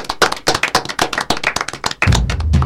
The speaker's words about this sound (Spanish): Con un aplauso terminamos.